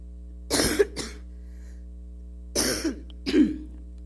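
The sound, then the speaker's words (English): Two bursts of harsh coughing, each a quick double cough, separated by a pause of about a second and a half, over a low steady hum. “I thought I took enough cough medicine.”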